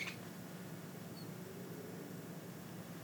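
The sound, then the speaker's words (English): A bird moving inside the ceiling: a short, sharp scratch or squeak at the start, then a faint high chirp, over a steady low room hum with no one talking. “Okay, I think there's a bird in the ceiling.”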